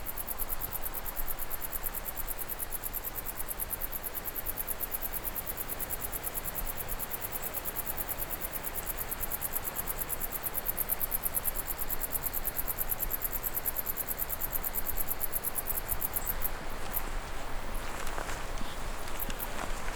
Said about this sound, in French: dans la vallée d'Orgex, haute vallée d'Orgex, en direction du col de Joux. Ambiance venteuse, vent de sud, criquet, sauterelle.